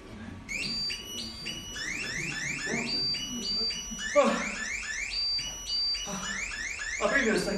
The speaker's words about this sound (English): Sorry, the most important thing, God set me an alarm. Wake me up in the morning.